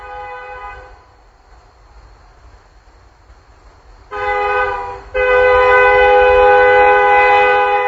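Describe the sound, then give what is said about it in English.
A modern train horn sounds loud: a brief blast fading at the start, then a short blast and a long, sustained chord over the low rumble of the passing train. “That's obviously a much more modern train.”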